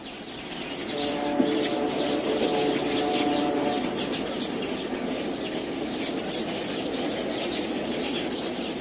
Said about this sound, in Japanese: 次第にその数を増したスズメは松の林に群がる。踊る、狂う、見事な、それは見事な共演である。